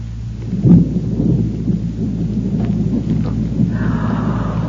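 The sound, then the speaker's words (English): A thunderstorm blowing up outside, heard from inside: deep, rolling thunder rumbles steadily with a louder crack near the start, while a constant hiss of rain fills the background. No voices are heard. “Oh, my, sounds like a storm blowing up outside, doesn't it, children?”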